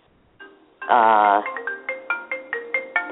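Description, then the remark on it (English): A phone rings with a loud, buzzy warbling burst, then a run of short, bright electronic tones repeating in a quick, steady rhythm at varying pitches. No one speaks. “It's persistent ringing.”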